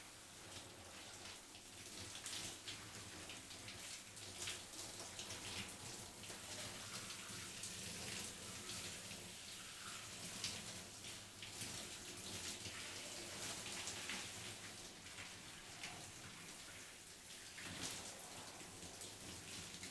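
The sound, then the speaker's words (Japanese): A shower runs steadily, its water hissing and splashing in a continuous spray as it rinses away thick soapy foam, with no voices present. “確かにシャワーで洗い流すときってすっごく気持ちいいもんね。”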